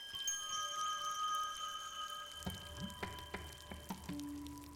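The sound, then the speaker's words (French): Rain falling, heard as scattered drops and splashes that grow sharper in the second half, over a steady wash of sustained tonal hum. No one speaks. “Il pleut toujours.”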